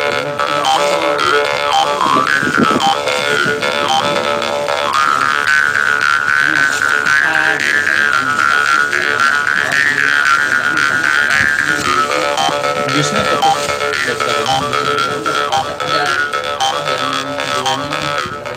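A karinding, a Sundanese bamboo mouth harp, plays continuously and loudly, a buzzing, twangy drone with wavering, vowel-like overtones that rise and fall over steady rhythmic plucks.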